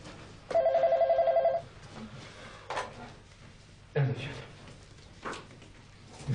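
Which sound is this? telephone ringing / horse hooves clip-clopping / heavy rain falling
telephone ringing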